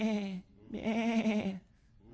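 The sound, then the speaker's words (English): A sheep bleats twice, a short wavering call followed by a longer, quavering one after a brief pause, with no talking over it. “Let me pet you, little sheep.”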